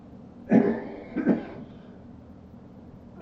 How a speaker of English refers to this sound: Oh boy, I got a real cough. I'm going to run out of steam.